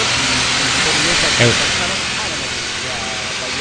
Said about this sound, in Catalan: Ara que hem ja escoltat el pas dels cotxes